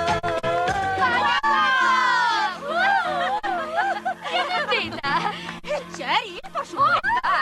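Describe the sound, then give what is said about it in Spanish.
Girls cheer and shriek excitedly in high, sweeping voices, many overlapping at once, loud and continuous over a steady musical backing, with bursts of squealing throughout, as young men dance on a stage. “Poco después, los jóvenes bailan en el escenario y las chicas animan.”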